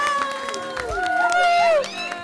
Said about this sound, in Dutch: Geef jezelf en elkaar een heel groot applaus. De leerlingen van groep Blauw van de Zomerschool. Laat je horen!